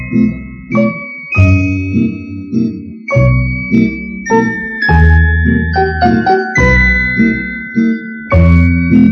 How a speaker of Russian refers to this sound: И было слышно, как тонко звенят золотые колокольчики на девочкиных длинных руках.